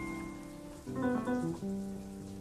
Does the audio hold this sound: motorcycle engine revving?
no